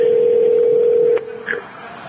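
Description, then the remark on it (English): A steady telephone dial tone hums for about a second, then cuts off with a click, followed by a brief higher beep as the call connects. No one speaks. “Now it's ringing.”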